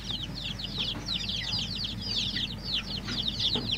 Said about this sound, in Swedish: Obekymrade om fågelinfluensan som har medfört att 8 människor har avlidit, miljontals höns har dödats i Vietnam, så är det full fart bland kycklingarna